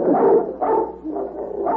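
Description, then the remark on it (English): A dog, the pet Little Rover, barks four times in a steady rhythm in an apartment. Each bark is fairly loud, with short pauses between them and no one talking. “Little Rover.”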